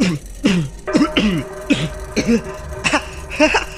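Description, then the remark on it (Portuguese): A person acts out a woman's fit of coughing, a string of about seven short, raspy coughs and throat-clearing bursts in quick succession, with no talking. “Ela começa a tossir.”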